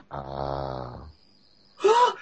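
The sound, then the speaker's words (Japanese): A voice imitates hot, breathless panting, mimicking a young man in swim trunks entering very hot water at a mixed bath: a long, buzzy, rasping exhale, a brief silence, then a short airy gasp, fairly loud with nothing else around it. “白人のお兄ちゃんがさ、 うん、 もうヒャーヒャー言いながら、なんか、タイプはすごい熱いらしくって。”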